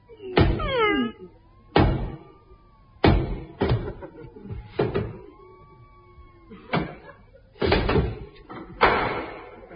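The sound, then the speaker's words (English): Heavy, booming knocks on a castle door, about eight loud thuds in an uneven rhythm, each with a ringing, rattling tail and faint creaks between them. No one speaks. “Now, lift me up and I'll knock.”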